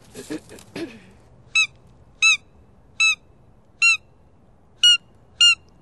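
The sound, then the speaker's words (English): A predator caller plays a mouse distress call: six short, shrill, piercing squeaks at a steady, evenly spaced rhythm, following a few brief rustling bumps at the start. “I'll play the little mouse first, just so you can get a sense of the different calls.”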